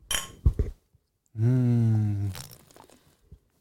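beer glasses clinking

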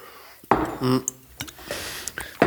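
glasses clinking

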